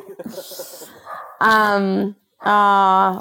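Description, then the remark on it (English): A puppy lets out two long, drawn-out yowling barks, loud with a short gap between them, after a moment of soft rustling. “And on that note, I think your puppy is ready for you to go have a Saturday.”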